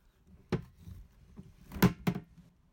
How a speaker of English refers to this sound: Show you my food waste bin handle.